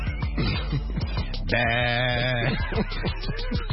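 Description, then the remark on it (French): A human voice imitates a sheep's bleat, voicing a thief pretending to be a sheep in a shepherd's flock as he is struck with a whip. It is a single drawn-out wavering "baa" held for about a second, set among surrounding talk. “Mais le voleur fait semblant d'être un mouton, et le berger, l'ayant remarqué, joue le jeu et lui donne un coup de fouet dans le dos.”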